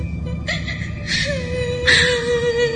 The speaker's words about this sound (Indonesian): Dia pun berdiri di satu lorong di minimarket ini. Dan kali ini terdengar suara tangisan perempuan itu yang menggema di ruangan minimarket ini.